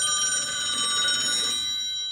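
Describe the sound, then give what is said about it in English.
A hotel room telephone in San Francisco rings at 5:30 a.m. in one continuous, rapidly trilling burst of bright metallic tones for about a second and a half, then stops and fades away. No one speaks. “The witness was awakened at 5:30 a.m. by her room phone ringing.”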